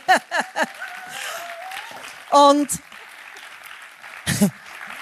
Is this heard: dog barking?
no